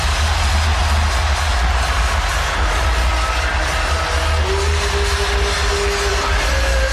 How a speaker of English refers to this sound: Timeout, Ohio State, as the crowd comes to life.